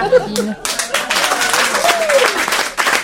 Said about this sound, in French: Les gens, non mais c'est extraordinaire parce que c'est dans ces périodes de crise où les gens retrouvent une humanité et on applaudit un bol de soupe, je trouve ça merveilleux.